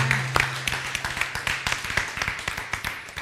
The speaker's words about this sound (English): Can you do me a favor and just give a shout and a clap to the Lord this morning? Thank you, Lord.